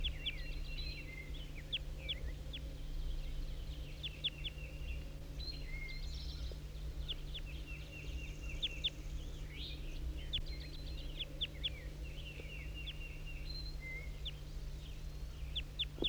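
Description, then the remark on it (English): A red male wild bird calls again and again in short, high chirps and trills, a busy overlapping chorus across the whole stretch over a steady low hum, with no talking. “These are all calls of the wild bird.”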